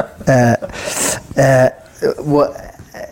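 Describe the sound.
A voice imitates a dog whining and howling in two long, steady cries separated by a breathy hiss, then a shorter wavering whimper, all fairly loud.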